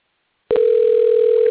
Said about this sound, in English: Can you hear it ringing? I sure hear it ringing. Try this again. Sounded like they were picking up.